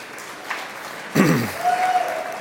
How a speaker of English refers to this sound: You can clap, that's cool.